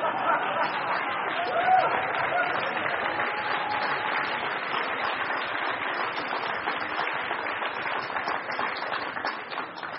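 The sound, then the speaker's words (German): An audience claps steadily for the full ten seconds, a dense, even patter of many hands mixed with a murmur of crowd chatter. “es ist besser nicht zu klatschen, das beweist gar nichts.”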